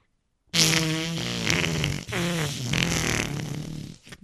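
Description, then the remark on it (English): A loud, sustained fart sound imitated with the mouth and hands, buzzing and flapping in two long bursts with a brief break, ending in a sputter and a short final pop. “your mouth is the sphincter and your hands are the butt cheeks on that one.”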